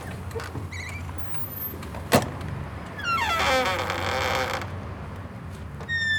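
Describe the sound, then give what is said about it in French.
A woman opens a door: a sharp click of the latch, then a long, drawn-out creak of the hinges swinging, clear, with no voices. “Aussitôt, sa femme les fit cacher sous le lit et alla ouvrir la porte.”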